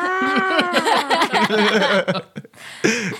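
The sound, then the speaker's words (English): A person vocalizes a whiny, wavering cat-like yowl, strained and rising and falling in pitch, breaking into a rough sputter before a short final yowl, imitating an irritated cat. “You're making like an irritated cat noise.”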